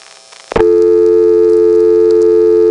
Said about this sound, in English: This 1977 dial tone is not going to result in a simple drop of the register sender, as it did 4 years ago. Instead, it ends up going to a reorder tone, and interestingly, the reorder tone is just there when the register sender drops.